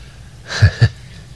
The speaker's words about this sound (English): You know, we kind of gasp a little bit because there are some of us that want to be really smart.